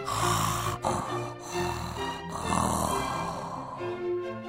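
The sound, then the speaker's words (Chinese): Loud, drawn-out snoring from a voice acting out a soldier snoring in bed, a few long rumbling, buzzy snores running together with brief catches between them, with no speech. “士兵听到了，立刻回到了床上，又大声地开始打呼。”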